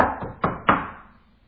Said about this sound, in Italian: In quel punto fu bussato alla porta.